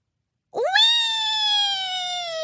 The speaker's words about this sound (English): A shrill shriek of excitement rang out. Pinkie Pie, Applejack, Fluttershy, Rainbow Dash, Rarity, and Spike came barreling through the air right toward the balcony.